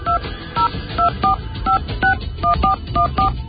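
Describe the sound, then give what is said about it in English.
Touch-tone phone dialing a number: about ten short, clear beeps of varying pitch in quick, slightly uneven succession over a faint low background hum. “And those of you familiar with the show should recognize that phone number by now.”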